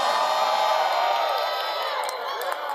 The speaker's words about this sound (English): Oh, you ain't cheering for me. That's favor.